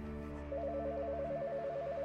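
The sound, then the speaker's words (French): A telephone rings unanswered inside a house with a rapid warbling electronic trill that begins after a brief moment and continues steadily, heard fairly softly over a low, constant background hum. “Il entend le téléphone sonner à l'intérieur.”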